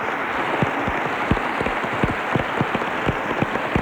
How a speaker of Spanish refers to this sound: Y quisiera pedir al público que está aquí que aplaudiera a esta voz, la primera que anunció el nacimiento de la radio.